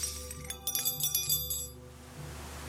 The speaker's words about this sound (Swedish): Det ramlar vassa föremål från alla hörn. Bestick, askkoppar, glas och porslin krossas mot golvet.